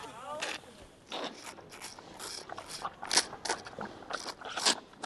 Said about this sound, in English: As pandas munch their bamboo, he stresses the animals are not going hungry.